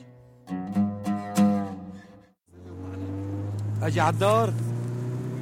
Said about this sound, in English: So this is one of those moments where you're like speeding down the road in a car with dudes with guns. You have no idea where you're going.